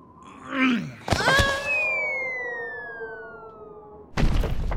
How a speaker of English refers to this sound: My soft stuffing would render me immune to gravity's cruelties. I'd land with a delightful thump.